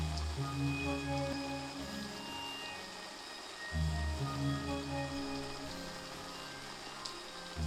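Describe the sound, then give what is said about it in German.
Steady rain falls in a continuous wash, with drops pattering on a surface and a soft low rumble underneath. No voices, just the constant hiss of the downpour. “Der Baum ist zu klein, um ihn vor dem Regen zu schützen.”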